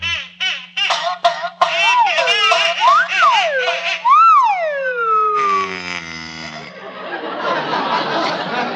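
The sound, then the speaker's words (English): A wind-up toy duck, being wound, quacks in a run of squeaky, nasal honks that swoop up and down in pitch, then gives way to a buzzing, rattling mechanical whir, fairly loud. “If there's anything I can do well, it's wind a duck.”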